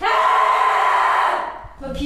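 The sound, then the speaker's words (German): A single sustained, open-mouthed scream from one voice at a scream workshop in Hamburg, loud, holding steady for over a second before breaking off, followed by a brief vocal sound. “Schreien klingt sehr anders, wenn ihr euch traut, den Mund zu öffnen.”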